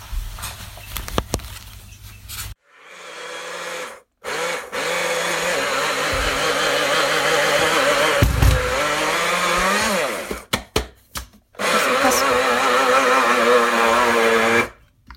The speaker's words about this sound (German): Dieses merkwürdige Geräusch ist unser Smoothie-Mixer, der gerade damit beschäftigt ist. Marzipan-Mixer, meinst du? Okay, also bis vorhin hatten wir einen Smoothie-Mixer, jetzt haben wir eine Marzipan-Mixanlage.